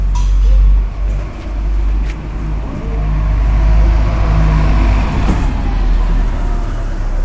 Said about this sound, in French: L'ASPI, plaque tournante des bus, du moins les jours fériés et les dimanches. On est le 14 juillet 2008, j'arrive à Avignon pour découvrir le festival. Il est approximativement 8h30.